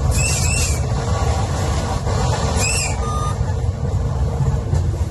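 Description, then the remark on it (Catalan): Two short, shrill train whistle blasts ring out early in the morning as an R1 train on the Maresme line crosses the new bridge over the Tordera between Blanes and Malgrat, Catalonia, over a steady, rumbling roar of the moving train, with a faint high squeal near the end. “El maquinista ha fet sonar el xiulet quan a primera hora del matí el tren de l'R1, la línia del Maresme, ha creuat el nou pont sobre la Tordera”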